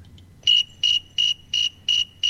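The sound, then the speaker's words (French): A thermometer cricket, a species found notably in North America, chirps at 24.8 degrees in a steady, evenly spaced rhythm, six bright trilled pulses in a row, clear over a faint low background hum. “Il a même nommé grillon thermomètre.”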